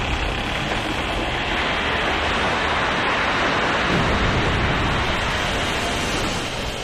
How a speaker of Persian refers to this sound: چطوری همچین طوفانی یه دفعه میتونه شروع بشه؟